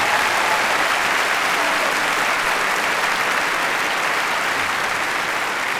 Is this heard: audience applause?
yes